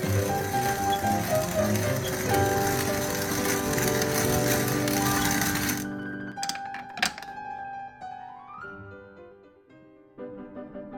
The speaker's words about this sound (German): Und zwar was seinen Kaffee angeht. Böhnchen für Böhnchen zählt er ab und malt sie dann.